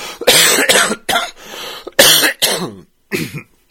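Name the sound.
coughing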